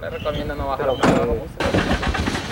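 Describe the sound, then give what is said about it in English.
A truck engine cranks and roars to life partway through as peasant farmers cram into the back of the truck to drive home up a mountain road, its loud revving settling into a steady low rumble, with indistinct voices murmuring beneath it. “When the major finishes talking, the campesinos cram into the back of their truck. They drive up a tortuous mountain road towards home, but are stopped at numerous army checkpoints.”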